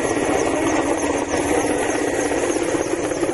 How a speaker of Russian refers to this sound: Просто звук вертолета. Не знаю, может быть, это ошибка монтажа, просто видео или что-то подобное.